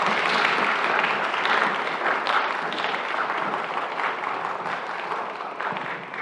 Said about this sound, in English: So I want a big round of applause for all of our friends.